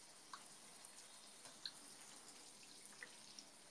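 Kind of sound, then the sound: household object, shower water running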